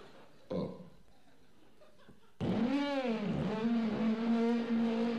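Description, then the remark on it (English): A person imitates a car engine starting with their voice: a short sputter, then a loud, sustained buzzing drone whose pitch swoops up and settles into a steady rumbling hum. “And I started the car.”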